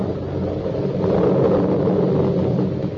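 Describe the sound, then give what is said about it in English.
A deep, continuous rumble of a storm brewing along the Hudson River at twilight rolls on for the whole stretch, swelling slightly in the middle, heavy with no voices over it. “The latticed summer house has grown heavy with vines, and only the other evening, two men came into that garden at twilight. Over the shaggy grass, as a storm was brewing along the Hudson.”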